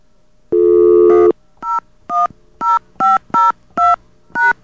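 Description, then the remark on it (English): Telephone keypad tones as the pound key is tried on a phone system: a longer steady tone followed by seven short, evenly spaced beeps of dual-pitched keypad sound, loud and clear with no talking. “He did say to try the pound sign thing, so let's try that.”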